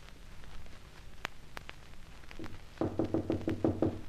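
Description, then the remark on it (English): A few scattered taps give way to a rapid, insistent burst of about eight loud, hollow knocks on a door, an urgent knock, with no voices. “you knock on Boyd's door, a sort of urgent knock”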